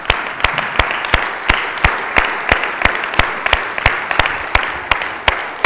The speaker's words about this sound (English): So let's give those people a round of applause.